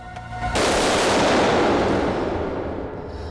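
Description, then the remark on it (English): After a brief quiet moment, loud, rapid gunfire from agents erupts and continues as a dense, sustained barrage, harsh, tapering only slightly toward the end. No one speaks. “Carrie lifts herself up off the floor and walks slowly towards the sound of the agent's gunfire”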